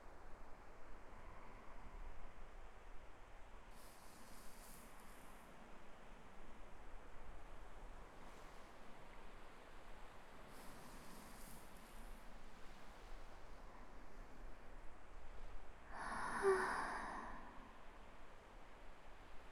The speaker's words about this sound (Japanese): おい幸せ。波の音聞きながら大切な人とこういう風に過ごせて昔の私が聞いたらびっくりしちゃうかも。